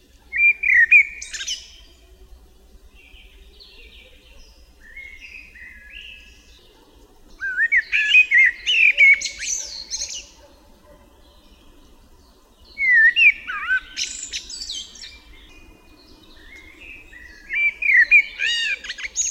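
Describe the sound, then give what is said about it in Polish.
A common blackbird sings a slow, melodious song in distinct phrases, each opening with low fluty whistles and ending in high, scratchy twittering, with short pauses between phrases. The bird stands out clearly against quiet surroundings. “W powolnej i melodyjnej pieśni kosa wyróżniają się fletowe gwizdy i świergotliwe jazgoty.”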